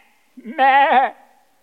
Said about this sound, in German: Die Schafe machen ja mäh.